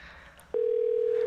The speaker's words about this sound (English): Yes, picking up the phone, dialing in those numbers.